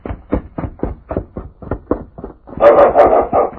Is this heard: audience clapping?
no